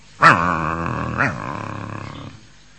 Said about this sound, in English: Just like the dogs barking.